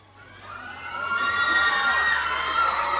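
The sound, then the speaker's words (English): A crowd of young Mexican fans shrieks and cheers in a dense, high-pitched wall of screaming that swells louder over the first second and then holds steady, as actor Gael Garcia Bernal walks the red carpet at the Morelia International Film Festival premiere of Cachochi. “Mexican youths swoon as actor Gael Garcia Bernal makes his way up the red carpet at the recent Morelia International Film Festival.”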